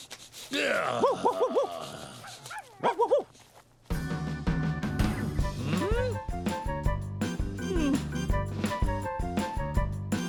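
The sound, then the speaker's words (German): A dog gives a few short barks and whiny yelps, then a bright, bouncy music track starts and carries on to the end. “Na los, wo ist dieser Hund?”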